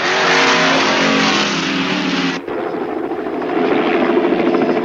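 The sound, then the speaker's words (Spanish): A loud helicopter roars steadily with a dense, rushing engine drone that shifts abruptly midway, then carries on with a rougher, pulsing rotor churn. No one speaks. “Entendido, helicóptero, voy para allá.”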